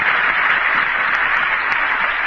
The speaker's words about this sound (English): I think I'll let the applause go there for a second.